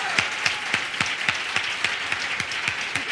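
Audience applause, a dense wash of many hands clapping with a steady rhythmic beat running through it, roughly three or four accented claps per second, sustained at an even loudness without any voices.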